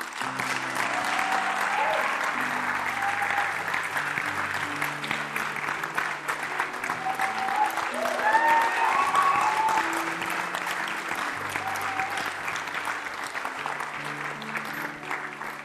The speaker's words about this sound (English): We're all clapping, not because you're on show, not because we want to embarrass, because we're so excited about what's happening right now.